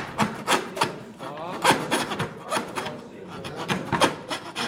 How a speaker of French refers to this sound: Force pas sur ta lame de scie. C'est elle qui travaille, c'est pas toi. Toi, t'es là pour la guider.